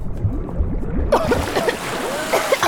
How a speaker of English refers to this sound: To achieve the sound of us being in the cenote, we actually stuck our faces in this Tupperware of water. The like choking on the water that you hear is like completely real. Like I was like accidentally breathing in way too much water.